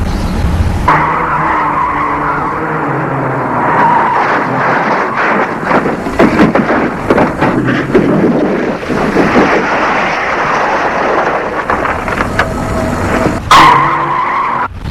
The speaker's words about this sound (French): Une voiture folle l'a renversée.